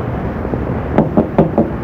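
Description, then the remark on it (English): Four sharp knocks on a door in a quick, slightly uneven rhythm, distinct over a low, steady background hum. “there is someone there. Then open the door.”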